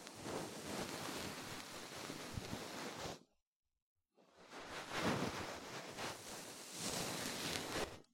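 A soft, fluffy bonten ear-cleaning puff brushes right against the ear in breathy rustling, two long sweeping passes separated by a brief silent pause, with no one speaking.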